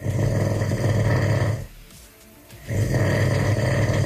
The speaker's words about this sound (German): Na okay, schwierig war es nicht, diese Geräusche aufzunehmen. Nicht zu überhören, das Schnarchen der Brandenburger und Brandenburgerinnen.